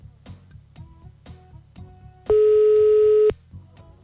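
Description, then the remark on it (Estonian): A single one-second telephone ringback tone, a steady loud buzzing pitch, sounds once over quiet rhythmic background music with a ticking beat, as a call is placed to a prize winner. “Kellegil see telefon nüüd heliseb.”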